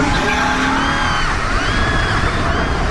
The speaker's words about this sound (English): Now pushing 100 miles an hour on a dark road, they were worried about crashing or flipping the car.